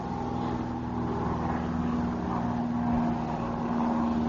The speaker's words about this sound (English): A few hundred feet above the jungle forests of the Guiana Highlands flies a tiny airplane, winging north over western Suriname. The morning is hot.